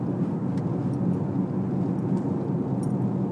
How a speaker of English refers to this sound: I see three cars, one coming towards me, two going away from me.